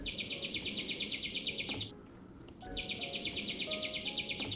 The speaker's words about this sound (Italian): E arrivò l'autunno, e poi un altro inverno, finché il gigante, sempre più malato, sentì il canto di un uccellino.